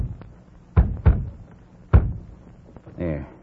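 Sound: knocking on a door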